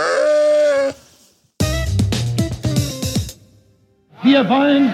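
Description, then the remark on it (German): A sheep bleats loudly on the North Sea island of Pellworm, then a noisy, clattering stretch follows before a second wavering bleat at the end. “Hier gibt's mehr Schafe als Menschen.”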